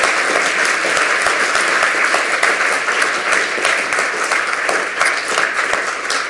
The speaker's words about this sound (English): If there are no more presenters in the audience, huge round of applause for all of the lightning talk presenters here at the Congress.